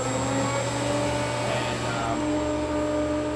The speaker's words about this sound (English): This is the most advanced, best vacuum pump in the industry right here.